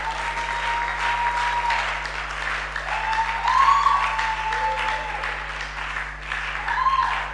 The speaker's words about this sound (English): Let's clap unashamedly.